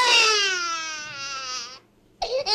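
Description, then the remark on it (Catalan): A newborn baby, just delivered at a birth, cries in one long, high, wavering wail lasting nearly two seconds, then breaks off briefly before a second short cry begins. “Després de molta angoixa, per fi, el nen acaba sortint. Podem sentir-lo plorar.”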